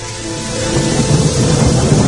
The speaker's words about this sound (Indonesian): Hujan tak kunjung reda.